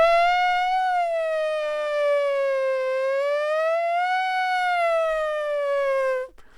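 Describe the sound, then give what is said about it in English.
A voice imitates a police siren with one long, loud wailing note that slowly dips and rises in pitch for about six seconds, then cuts off abruptly. “Not a bad siren sound, huh?”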